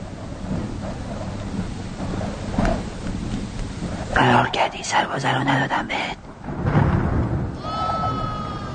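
A sheep bleats in several quick, wavering cries close by, over a steady backdrop of rain and low rumbling thunder.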